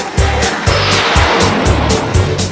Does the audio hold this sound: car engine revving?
yes